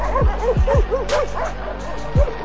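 A dog barks in quick bursts, three sharp yips close together, then a pause and one more bark, fairly loud against a faint murmur of background noise.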